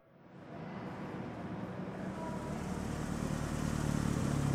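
A father's car approaches, its engine's low rumble swelling steadily louder over a few seconds as the vehicle draws near, with no voices.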